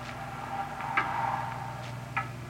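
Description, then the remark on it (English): A clock ticks steadily and fairly loudly, its sharp clicks repeating at a regular pace over a low, constant background hum, with no one speaking. “It's a loud clock, ain't it?”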